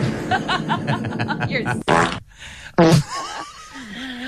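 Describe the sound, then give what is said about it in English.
Someone blows loud raspberry-style mouth fart noises: a buzzy vocal stretch followed by two sharp, sputtering bursts, with brief voiced sounds trailing off at the end. “I'm sure he was so happy with all your fart noises.”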